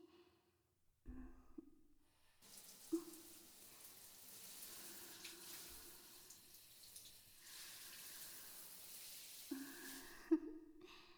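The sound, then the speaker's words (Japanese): Shower water sprays steadily for several seconds, rinsing off soap foam, a broad hissing rush that starts abruptly and cuts off, with a few soft clunks and handling noises around it. “おちんちん泡と精液で混ぜ混ぜになってるから、一回きれいに流しちゃいましょうね。”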